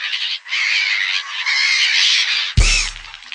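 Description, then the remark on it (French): Seagulls squawk loudly and almost without pause, harsh overlapping cries, with a short dip early on and a brief low thump near the end. “Et à 800 c'est ça qui est chouette, on s'amuse tous. Même les mouettes.”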